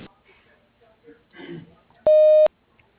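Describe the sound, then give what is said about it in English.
A single loud, steady electronic tone, a voicemail recording beep, sounds for about half a second after brief, indistinct talk, then the line falls quiet. “If you would like to just leave a message, simply hang on the line and record the message after the beep.”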